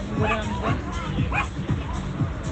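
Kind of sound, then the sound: animal, small dog barking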